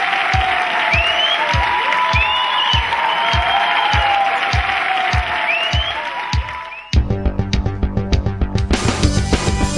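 Loud, dense audience applause welcoming a guest, with whistle-like cheers and steady rhythmic thumps, lasting about seven seconds before cutting abruptly to music.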